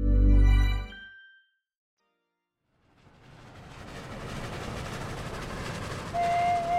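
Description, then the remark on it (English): A deep droning tone fades to a short silence, then a train's steady rumble and clatter swells in and carries on loudly, with a thin metallic squeal near the end; an 8-hour train journey from Melbourne to Brothen. “For Ronald and Ethel Griggs, getting from Melbourne to Omeo meant 8 hours on a train to Brothen and then 4 more hours on winding roads in a large touring motor car.”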